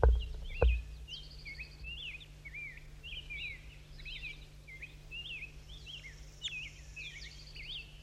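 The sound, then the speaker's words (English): A wild bird calls in a steady stream of short, high, warbling chirps over a low constant hum, with a couple of dull thumps at the very start. “It's a wild bird.”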